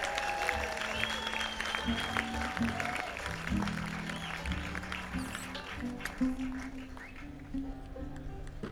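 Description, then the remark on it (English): An audience at a festival performance applauds for everyone named Mary, with dense, steady clapping that holds for several seconds and tapers slightly toward the end, while low sustained tones hum underneath. “Let's hear a round of applause for anybody named Mary.”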